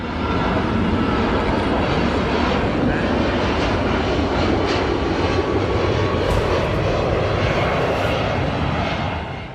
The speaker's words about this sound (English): It stops. It seems it stops for the plane to pass by, and then it continues on going up.